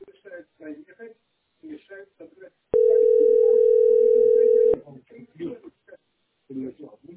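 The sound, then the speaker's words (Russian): A loud, steady telephone tone sounds for about two seconds, one continuous electronic burst, while people chat before and after it. “Звонит, кстати.”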